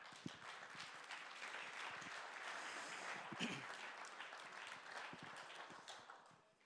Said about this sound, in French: Merci, on peut les applaudir.